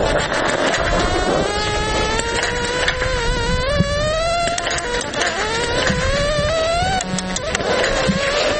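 A continuous electronic aiming tone for blind biathlon shooting, heard through headphones at a specially equipped firing line: a buzzy harmonic hum whose pitch slowly climbs, drops back and climbs again several times at a steady loudness, with no voices.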